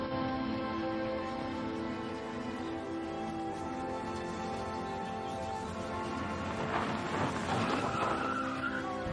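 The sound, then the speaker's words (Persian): Car tires screech in a long, loud skid as the car brakes when a motorcycle blocks the road, just before it hits a person; a sustained high-pitched squeal with a motor's rumble underneath, growing harsher and more strained toward the end. No one speaks. “متاسفم بهت زدم، یعنی راستش یه موتوری را همو بست.”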